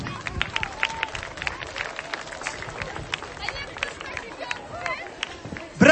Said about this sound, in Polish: Jest taka rodzina? Jest. Zapraszam serdecznie. Brawa dla tej rodzinki.